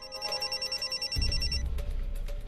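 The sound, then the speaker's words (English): A telephone ringback tone purrs in a rapid, regular pulsing pattern as a woman places a call on her phone, clear, then cuts off abruptly when the call is answered, as a low rumbling thump and handling noise take over. “She picks up her phone. Samuels answers.”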